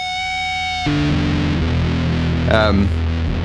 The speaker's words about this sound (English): Check the sustain of a Big Muff.